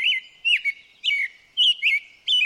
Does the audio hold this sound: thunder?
no